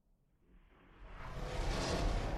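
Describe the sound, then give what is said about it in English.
An older elephant's deep, whooshing breath swells steadily from a soft start to a loud, airy rush, with no voices over it. “And there's like a gust going through, just this big whoosh in and a big whoosh out.”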